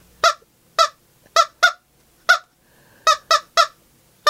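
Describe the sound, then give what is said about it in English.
A squeezed rubber toy chicken honks about nine times in loud, nasal, squeaky bursts, some spaced apart and some in quick pairs, with no talking. “Okay, we're going to have to buy a better chicken.”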